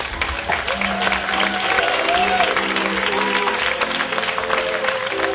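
An audience claps steadily as a speaker is introduced, a dense wash of applause that stays loud and even for several seconds, with faint murmurs and a few tonal hums underneath.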